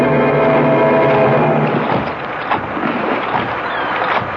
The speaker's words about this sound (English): The boat is sinking, Mrs. Forbush. It's going straight to the bottom.